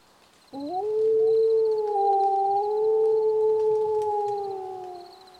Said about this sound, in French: Il pointe son long museau vers le ciel et un long hurlement sort de sa gueule.